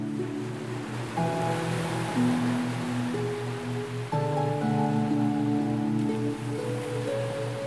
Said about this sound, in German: Du hörst noch immer das wundervolle Rauschen des Meeres. das dich sanft in den Schlaf senkt.